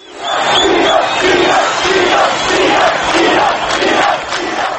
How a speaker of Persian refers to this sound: تظاهر کنندگان در راهپیمایی های روز گذشته همچنین بارها نام ایران را فریاد زدند.